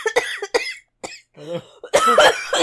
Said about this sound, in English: Oh my god. She's choking on the money and coughing into the microphone for some reason.